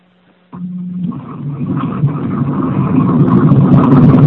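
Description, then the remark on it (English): A brief low hum gives way to a steady, heavy rumble of train or subway noise coming through a participant's unmuted phone during a conference-call meeting, muffled as if heard over a phone line, growing gradually louder with no voices. “Someone is in on the train or in the subway.”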